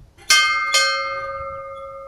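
A ship's bell at the Bridge of Remembrance (Brücke der Erinnerung) is struck twice in quick succession, each clang bright, then rings on with a long, slowly fading metallic tone. No one speaks.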